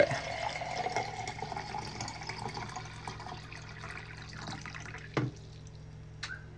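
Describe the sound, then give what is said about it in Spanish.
Water pours into a glass in a steady, bubbling trickle, followed by a couple of sharp knocks as the glass is handled and drunk from, with no talking. “Estoy tomando agua.”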